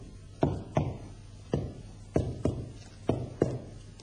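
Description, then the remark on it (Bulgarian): A blind man's walking stick taps out seven sharp, hollow knocks at a slightly uneven walking pace as he walks, each strike ringing briefly over a steady low hum. “Беше явно, че е сляп, защото вървеше като почукваше стояшка.”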